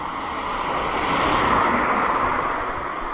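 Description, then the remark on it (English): A car rushes past, its broad roar swelling to a peak midway and then fading as it speeds away, with no voices. “Okay, we're getting out of here a moment, just as this car rockets past me.”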